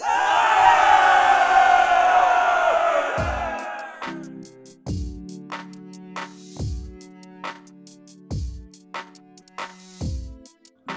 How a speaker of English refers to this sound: They were swiftly taken into custody by the white and gold Holy Legion, and a cheer of victory rose up in the evening air.